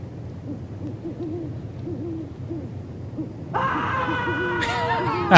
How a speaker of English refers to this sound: Of course, you gotta have the owl action.